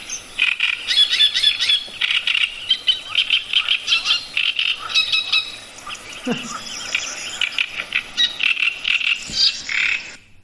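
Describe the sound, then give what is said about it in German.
A great reed warbler sings a loud, harsh, chattering song with grating, repeated croaky phrases delivered in a continuous stream for about ten seconds, without talking. “Ja, und er hat eben dieses sehr, also die Rohrsänger klingen teilweise ähnlich, aber singen höher. Und der Drosselrohrsänger, das kann man, finde ich, sich eben gut merken, weil er auch der größte Rohrsänger ist”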